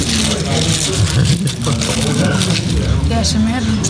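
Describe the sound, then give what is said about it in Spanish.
People chewing crunchy potato chips while snacking on chips, cheese and ham: a steady run of crisp, crackling crunches and squishy bites, with voices murmuring underneath throughout. “Se nos escucha nosotros masticando. Y vamos a masticar porque acá tenemos, mira, papa frita, queso, jamón.”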